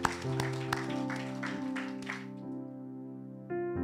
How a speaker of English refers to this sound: And now would everyone just applaud these great men who are standing.